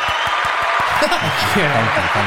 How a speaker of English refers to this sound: Okay, I'll cut that short. It's like 10 seconds of clapping.